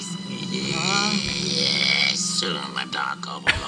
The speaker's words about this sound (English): Is he burping? Yeah. He's burp talking.